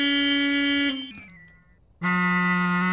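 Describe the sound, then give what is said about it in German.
A normal car horn, altered and pitched lower: a buzzy, sustained horn tone that sags and slides downward in pitch midway, thinning out briefly, then returns loud and steady at a lower, deeper pitch than at the start. “Okay, eine normale Hupe nehmen und die... Verfremden einfach. Und tiefer machen.”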